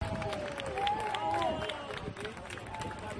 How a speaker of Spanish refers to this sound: Son los aplausos que reciben los bomberos después de rescatar en la séptima planta a 2 personas, un padre y una hija, en un rescate absolutamente de película.